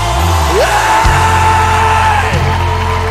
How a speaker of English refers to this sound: Now, can we scream one more time to Jesus?